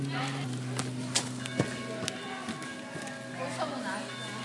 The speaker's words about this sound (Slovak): Čo môže byť krajšie ako úder kostolného zvona. Ďakujeme. To je krásne. To je signál, že sa máme niekde zhromaždiť a niekde prísť. To je úplne super. Ďakujeme aj za tento zvuk, pretože to nám ohlasuje, aby sme trošku zastali,